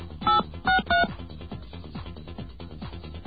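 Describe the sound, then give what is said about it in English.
Three short, bright telephone keypad tones beep in quick succession as a phone number for the corner of Houston Street and Broadway in Manhattan is dialed, over a low, steadily pulsing dial tone, which carries on alone once the dialing stops. “Let's call it and see what happens.”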